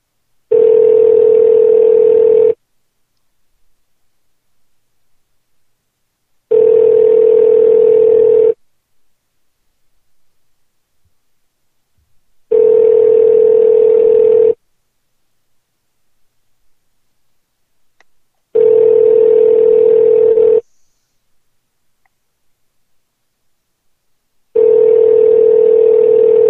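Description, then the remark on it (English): A phone call to an electronics department rings out unanswered: five steady, mid-pitched ringback tones, each about two seconds long, separated by even gaps of near silence. No one speaks. “The electronics department did not even pick up the phone.”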